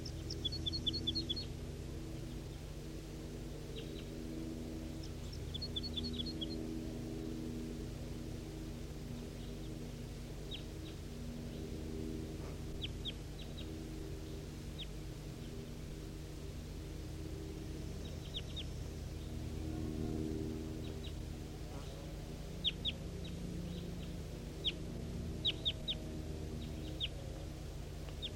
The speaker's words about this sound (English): Here goes that wild one towards the other wild birds, away from the net.